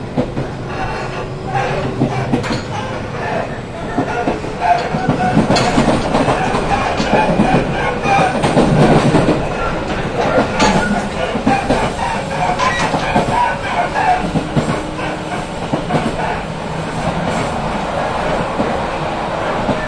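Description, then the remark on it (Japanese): Continuous rumble of a train running on rails, heard from inside the carriage of a train bound for Tsukinoki via Hobara, Yanagawa, Marumori and Kakuda, with rhythmic clickety-clack of wheels over track joints and a swelling roar midway; steady and fairly loud throughout. “なおこの電車は柳川からワンマンカーとなります。”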